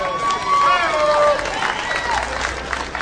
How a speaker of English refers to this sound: Give her a round of applause, please.